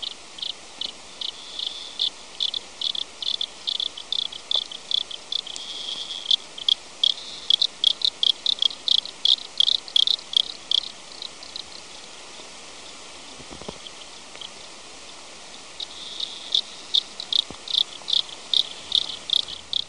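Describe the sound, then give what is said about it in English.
Rapid, repetitive chirping clicks from aquatic insect larvae recorded underwater with a hydrophone in 1984, coming in dense rhythmic bursts over a steady hiss, much like crickets on a summer night, with brief quieter gaps. “This is the first recording of insect larva in 1984.”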